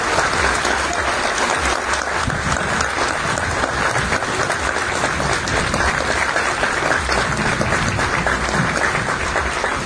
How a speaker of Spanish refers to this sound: Bueno, no tengo más que solamente agradecerles por este lindo aplauso.